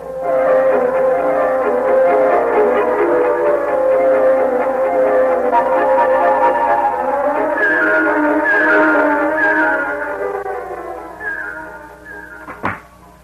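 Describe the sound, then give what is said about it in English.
A car engine hums steadily with a tonal, whining drone that shifts pitch as it drives, then fades down before a short sharp knock near the end. “Then let me borrow your car.”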